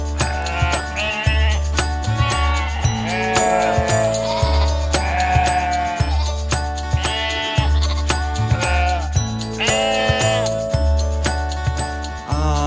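A couple of wavering, bleating sheep calls rise over a steady musical backing with a bass line and light jingling bells; no one speaks.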